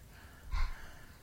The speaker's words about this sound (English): Take a good breath. Good. Or breathing. Can you say it? Breathing. Good job.